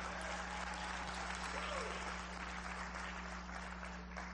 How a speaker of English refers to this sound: Please give them an applause for the great work they do.